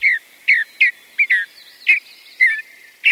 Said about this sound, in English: The cheery song of this mountain bluebird is a sure sign of spring.